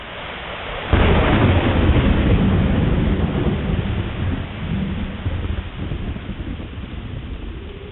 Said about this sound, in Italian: E gli infaticabili scoppi dei tuoni adesso venivano con assordanti deflagrazioni esplosive, forti e nette, e indicibilmente terrorizzanti.